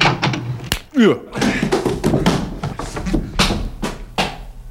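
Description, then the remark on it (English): A person slams a shoulder against the wooden door of a shack on the outskirts of Midland City: a sharp slam followed by several more dull impacts and bumps, with a voice talking and exclaiming throughout. “Well, now I usually place my shoulder against the door thusly and announce myself.”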